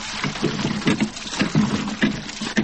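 A hand pump worked in steady, rhythmic strokes nearby, each one giving a creaking, sloshing gush of water, repeating about twice a second with no voices.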